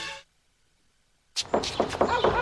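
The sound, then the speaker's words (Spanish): After a short tone and a moment of silence, someone knocks at a door with a quick series of fairly loud raps. “¡La puerta! ¡Sí, yo voy! ¿Quién es?”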